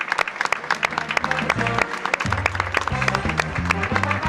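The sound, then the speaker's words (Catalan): An audience applauds steadily for about four seconds, a dense, loud patter of many hands clapping, with low sustained tones shifting underneath, applauding the classical-jazz-flamenco fusion band after their performance at a pregó (festival proclamation) event. “Els hi fem un altre fort aplaudiment perquè ho han fet realment fantàstic.”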